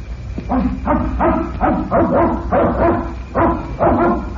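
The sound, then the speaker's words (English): A dog barks repeatedly in quick, steady bursts, about eight loud barks over a few seconds, with no one speaking; it is Fred Harlan's dog at the place where Harlan lives. “That must be the dog you told us about.”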